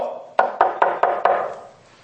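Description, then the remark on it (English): Five firm knocks on a wooden door in a steady, even rhythm, fairly loud, each with a short resonant ring that fades after the last rap. “We went door knocking.”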